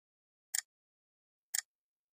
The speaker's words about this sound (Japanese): 時計の針が規則的に時を刻みます。時計は無常ですね。機械的に時を刻むだけ。